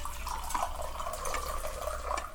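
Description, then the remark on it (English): Water pours steadily into a glass for a couple of seconds as a server brings water to diners at a Chinese restaurant, a continuous splashing trickle with no talking over it. “Now, here's your water.”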